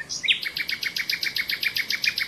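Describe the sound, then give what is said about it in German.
A nightingale sings a fast, steady run of repeated bright notes, about eight per second, loud, with no other sounds around it. “Nachtigall.”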